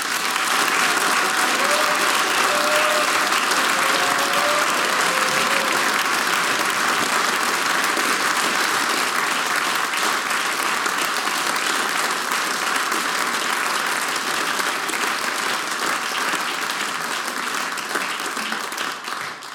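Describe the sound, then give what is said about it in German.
Sustained, dense applause from an audience for the performers on stage fills the whole stretch, a steady loud wash of many hands clapping with a few faint voices mixed in, tapering slightly at the end. “Das ist euer Applaus.”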